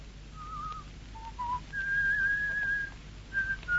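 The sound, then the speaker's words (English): A man whistles a short, wandering tune: a few brief notes, then a long sustained pitch and two quick closing notes, fairly clear over a faint background hiss, with no talking. “You whistle and whistle so you can think.”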